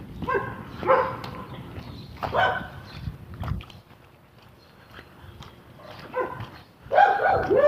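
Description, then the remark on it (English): A dog belonging to another person barks repeatedly in short, uneven bursts, with scuffling and low rumbling noise in between and no one speaking. “Yeah, somebody else with a dog.”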